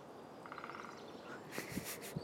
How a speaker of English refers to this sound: I can't see this one. There's many green woodpeckers on campus. You see them often.